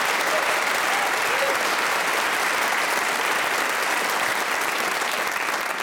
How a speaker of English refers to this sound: Let me introduce you to the four wonderfully talented human beings playing Just a Minute this week. They are Felicity Ward, Ivo Graham, Josie Lawrence and Paul Merton. Please whoop and cheer for all of them.